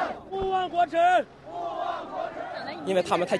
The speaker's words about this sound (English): But the crowds are motivated by something else. One chant says it all. Never forget national humiliation.